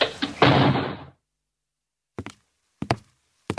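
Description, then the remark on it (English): A heavy front door swings open of its own accord with a broad, rushing sweep lasting about a second, then silence, followed by three sharp, separate thuds spaced apart, fairly loud, with no voices. “the front door of Winshaw Towers swept open of its own accord.”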